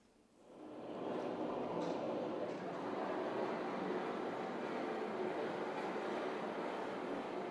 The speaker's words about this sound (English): That was a river, a rushing water.